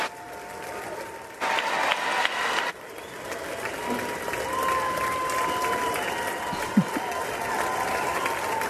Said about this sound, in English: Some big applause, as there should be. Again, he's the President of the United States, and we all love our country.